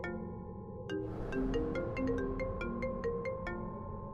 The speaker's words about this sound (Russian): тут раздается мелодия телефона в этой черной квартире, прямо в метре от двери. Меня аж пот прошиб. Реально играет мелодия. Причем я знаю, у Ленки дельфин стоит на рингтоне, а здесь просто стандартный звонок. Причем у Ленки Samsung, а тут iPhone.